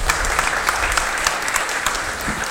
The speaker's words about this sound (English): I'll give my helpers a round of applause. Thank you for your help.